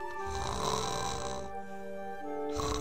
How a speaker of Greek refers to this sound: Στο υπνοδωμάτιο του βασιλιά, το πρωί, ο βασιλιάς, ξαπλωμένος στο πουπουλένιο του κρεβάτι, ροχαλίζει και παραμιλάει.